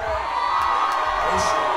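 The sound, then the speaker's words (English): A large crowd boos the Patriots loudly and steadily, a dense wall of low, sustained voices with a few shouts poking through, lasting just under two seconds. “I know you're booing the Patriots, but I'm self-important, so I think you're booing me.”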